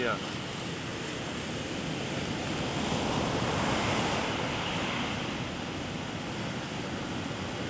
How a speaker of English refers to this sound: Now it is like Puri, huh? Waves.